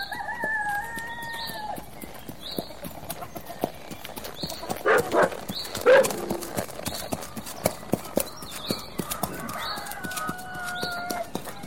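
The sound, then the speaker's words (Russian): A horse trots at a light, steady, brisk rhythm past the remains of a dilapidated water tower, its hoofbeats clopping clearly, while a rooster crows and other birds call in the background. “За остовом обветшавшей водокачки пустил легкой рысью.”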